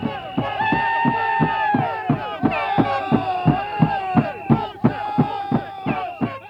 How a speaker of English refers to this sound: As darkness falls, the police switch on banks of glaring lights on the boat landing itself. The first boat of spearers pushes away from the landing, and the crowd gets noisy.